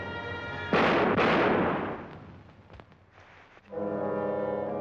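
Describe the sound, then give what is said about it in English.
Two loud, booming gunshots in a film scene ring out close together with a long reverberant decay, set against sustained brassy musical tones that fade and then swell back in at the end. “So the composer is sitting in the dubbing room saying, you know, let's lower the volume of the gunshots.”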